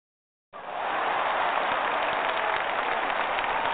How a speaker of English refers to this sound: Thank you for all the claps, people. That is so joyful. so kind and appreciate it.